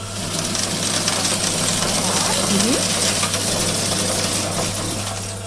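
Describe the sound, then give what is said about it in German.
A coin counting machine, slightly larger than an ordinary printer, whirs and rattles steadily as coins are counted, clattering and ticking through its mechanism into a jute bag at its lower outlet, in a dense, continuous metallic jangle over a low motor hum. “Genau, also die Münzen sind jetzt wahrscheinlich zum Zählen einmal durch diese Maschine gerasselt.”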